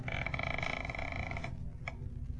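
A front door creaks open in a drawn-out, groaning squeal lasting over a second, then a brief faint click as it settles, with no voices.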